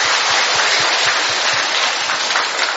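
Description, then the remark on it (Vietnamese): A crowd gives a big round of applause to greet one another, loud and steady, many hands clapping densely together with no pauses and no voices over it. “Rồi chúng ta vỗ một tràng pháo tay thật lớn để chúng ta chào nhau.”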